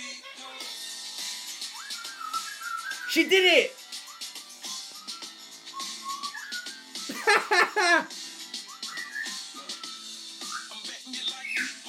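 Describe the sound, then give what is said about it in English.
A pet bird named Lily Bird whistles a wavering tune of short rising and falling notes, joining in with a tune played from a speaker, breaking into two louder bursts of rapid chirping, while a person speaks briefly over it. “Come on, Lily Bird, join in.”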